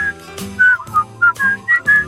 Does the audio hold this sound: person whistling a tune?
yes